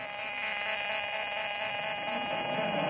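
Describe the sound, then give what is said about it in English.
A recreated phone-burst interference noise, made by dialing a special number on a mobile phone so its bursts interfere with a radio: a harsh, steady electronic buzz with a rapid pulsing texture, holding at an even level for three seconds with no talking. “I will try to make the noise of the bursts that you hear them with the interference to a radio.”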